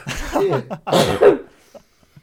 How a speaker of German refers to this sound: Ich habe mich verschluckt, Entschuldigung.